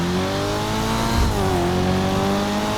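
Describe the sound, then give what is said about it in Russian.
A 1980s Nissan coupe engine revs loudly and continuously, its droning pitch dipping briefly midway as if shifting gear, then holding strong again. No one speaks. “Ее двигатель, однако, ревет довольно неистово.”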